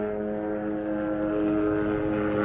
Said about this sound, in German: Jetzt fliegt hier der Helikopter durch, ich hoffe, ihr hört es noch. Wo ist er? Hier hin. Helikopterlandeplatz gibt es hier, gleich um die Ecke.